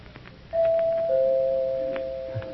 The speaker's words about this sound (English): I know who it is because she rings the doorbell instead of knocking. It's his girl.